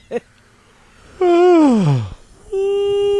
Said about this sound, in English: I am not going to yawn. I'm not going to yawn. I'm just not yawning. Going to. Everybody's yawning.